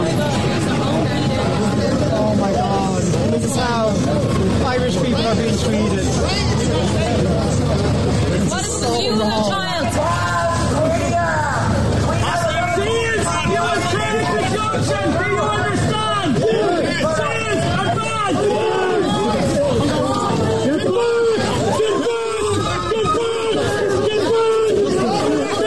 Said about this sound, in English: So that is the Gardaí, and I know it's only audio, but that is the Gardaí pushing the crowd back.